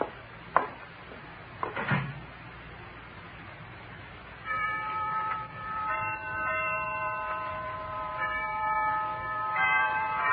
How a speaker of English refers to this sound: Down from the Harkness Tower floated the chimes of noon, unheeded by the busy undergraduates piling out of classes, criss-crossing the campus as they dashed for eating clubs and fraternity houses